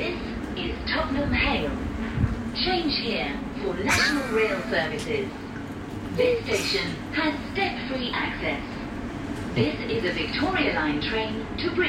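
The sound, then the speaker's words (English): A London Underground Victoria Line train to Brixton rattles and roars through a tunnel, a loud, steady, rocking rumble with clanks and screeches, with indistinct voices murmuring beneath the noise; a station announcement names Tottenham Hale. “that rocking, noisy motion of a tube train flying through a tunnel”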